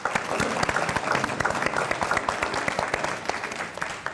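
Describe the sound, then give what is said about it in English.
A room full of people claps steadily for about four seconds, a dense, even patter of many hands with no voices standing out. “So I just want to give you a round of applause for that very important program.”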